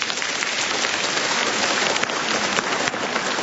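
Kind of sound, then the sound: crowd, applause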